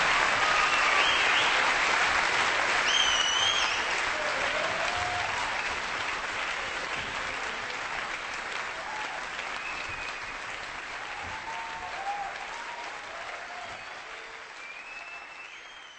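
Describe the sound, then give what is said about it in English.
Sustained concert audience applause for a singer and pianist at a live show in France, a dense wash of clapping with a few scattered whistles, gradually thinning and fading as it goes on. “The applause for singer and pianist”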